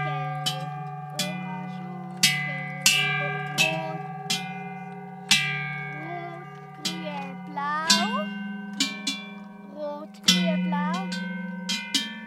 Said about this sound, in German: Schellenbaum heisst die Installation. Die Glocken sind an einem hohen Mast angemacht. An jedem Glockenzug hat es eine Farbe und auf der Tafel Noten von Bruder Jakob, auch mit Farben.